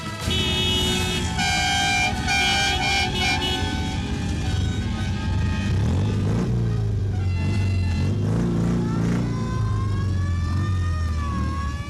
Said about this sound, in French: Ces sirènes, ces klaxons, ces pétarades animaient ce matin entre 8h et 9h l'avenue des Champs-Élysées. Une centaine de motards s'étaient donné rendez-vous devant la maison de l'Iran pour participer au départ du raid Orion